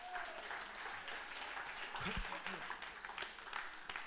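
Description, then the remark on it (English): A church audience claps together for the Lord in a dense, steady burst of applause, with sharper individual claps poking through. A voice briefly rises underneath midway. “The people they don't like clapping.”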